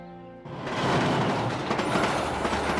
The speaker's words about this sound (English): The sun beats down overhead in a cloudless sky as a train trundles through a dusty, arid landscape. Years later, in 1898, Winston found himself on a train travelling through Egypt on his way to join General Kitchener's 21st Lancers in the Sudan.